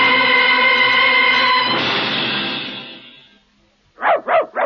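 A sustained harmonic tone fades into a washy, decaying noise, followed by a brief silence and then a dog barking three quick times in a row, loud.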